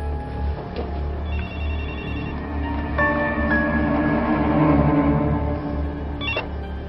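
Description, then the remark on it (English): A telephone rings with a bright electronic warble, repeating in short bursts over a low, steady background hum, moderately loud, with no one speaking. “Mom, can you answer the phone, please?”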